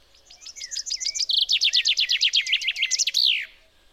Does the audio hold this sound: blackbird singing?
yes